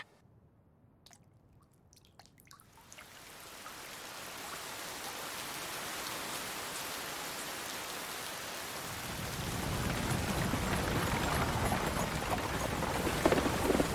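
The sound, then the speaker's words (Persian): Heavy rain pours down in a storm, starting with scattered drips and swelling into a dense, roaring downpour that grows louder and fuller toward the end, with no voices. “اگه توفان از این سنگین تر بشه، منورمون فایده زیادی برمون نداره.”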